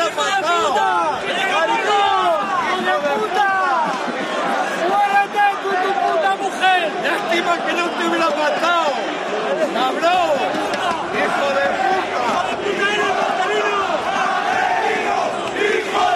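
A large crowd of Rayo Vallecano football fans at Vallecas shouts insults toward coach Marcelino's bench, yelling continuously, many overlapping voices rising and falling in loud, agitated bursts with no pause for the whole stretch.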